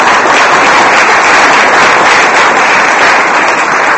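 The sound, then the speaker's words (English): A loud, steady burst of applause from a crowd for a high school shot put and weight throw athlete, with dense overlapping claps sustained evenly throughout and no voices standing out. “Nice round of applause for him.”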